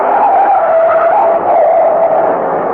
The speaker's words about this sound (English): look out! That truck!